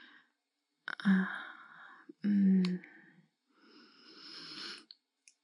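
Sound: heavy breathing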